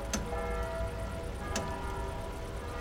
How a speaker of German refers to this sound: Konzentrieren Sie sich nur auf das Ticken der Uhr. Wenn Ihre Aufmerksamkeit abschweift, dann lenken Sie sie zurück auf das Ticken der Uhr. Achten Sie nur auf das Ticken der Uhr.